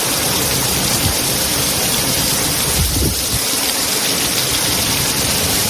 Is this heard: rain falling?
yes